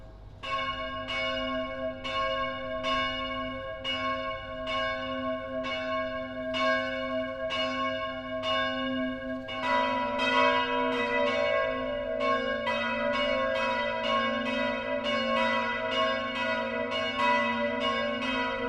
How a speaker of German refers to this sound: Das Mittagsläuten kommt heute von der evangelisch-lutherischen Stadtpfarrkirche St. Matthäus im niederbayerischen Passau.